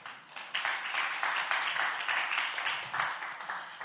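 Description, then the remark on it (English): A church audience at Last Adam Tabernacle claps steadily for the choir for about four seconds, a dense, continuous patter of many hands at an even loudness, with no voices over it. “We didn't clap for the choir.”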